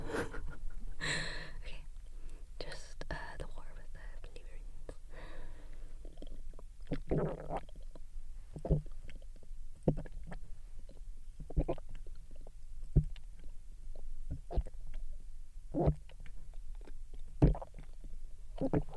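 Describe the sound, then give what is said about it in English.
A throaty burp-like sound opens, then gulping of 600 milliliters of water follows: a steady series of wet, rhythmic swallows every second or so, with no talking. “I used to be incredibly embarrassed in high school about my burp, like my gulps, because I used to always think I sound like a frog.”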